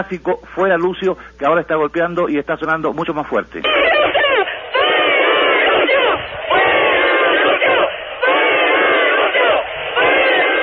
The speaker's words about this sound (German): Ihre Rufe gegen Lucio Gutierrez sind inzwischen sehr viel lauter geworden.